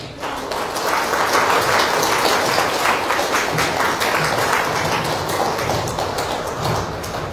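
A large audience at a Buddhist sutra-lecture assembly claps steadily and loudly for several seconds as a Dharma master is invited up, a dense, sustained patter of many hands that rises quickly at the start and holds evenly throughout, with no voices standing out.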